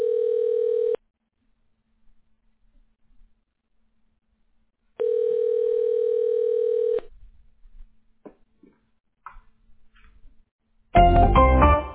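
A phone line's ringback tone, a steady electronic hum heard twice with a long silent gap between. Faint clicks follow, then a sudden loud burst of noise at the end.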